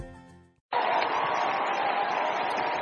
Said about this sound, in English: Hallelujah. Someone is clapping for Jesus this morning. Come on, make it bigger, make it better.